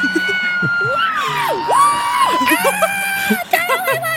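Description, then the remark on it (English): A crowd at an awards ceremony cheering wildly, with loud, sustained shouts, whoops and high-pitched screams layered over dense babble, staying energetic throughout the few seconds. “The crowd goes wild.”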